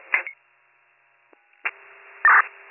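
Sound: telephone number being dialed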